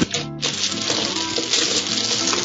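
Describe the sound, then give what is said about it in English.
Dice clatter and rattle, a busy stream of small clicking knocks that pauses briefly near the start, then continues steadily for a couple of seconds, with no voices. “Someone else found their dice as well.”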